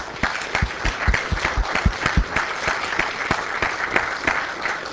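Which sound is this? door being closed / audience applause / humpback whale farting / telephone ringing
audience applause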